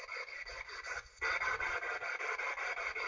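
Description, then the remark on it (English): Quiet, steady gnawing: a fine, rapid scraping rasp with a brisk rhythmic texture that gets noticeably louder about a third of the way in and continues without pause. No one speaks. “Oh, there is a little gnawing. I heard it again.”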